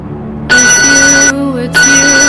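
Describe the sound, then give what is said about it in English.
A mobile phone ringtone sounds for an incoming call from the speaker's dad: two loud, bright electronic bursts separated by a short break, with steady high-pitched tones and no one speaking. “Why the hell is my dad calling me?”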